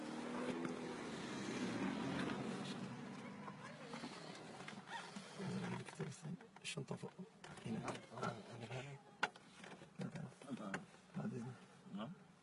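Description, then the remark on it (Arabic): A gust of wind buffets a microphone with a loud, rumbling roar for several seconds, then eases into scattered bumps and faint murmuring voices. “الرياح هبت.”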